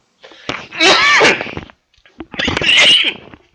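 Two sharp sneezes in quick succession, loud and close to the microphone, each a breathy burst with a short pause between them and no talking.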